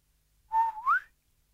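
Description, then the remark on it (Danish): A man whistles a short two-note phrase, a steady tone followed by a rising slide, clear with no talking around it, as he walks around boys lying face down. “Først går manden lidt rundt om drengene, mens han fløjter sin enerverende melodi.”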